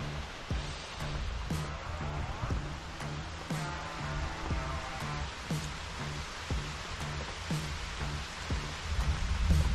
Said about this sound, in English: But here's a view from what it looks like from the top of the truck when you wake up in a rainstorm.